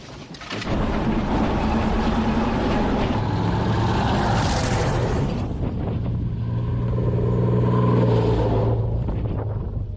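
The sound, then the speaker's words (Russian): A heavy military vehicle's engine roars as it drives, a loud, steady rumble whose pitch shifts a few times as it changes speed, with no voices. It is the battery senior officer's vehicle driving to the firing position. “Машина старшего офицера батареи едет на огневую.”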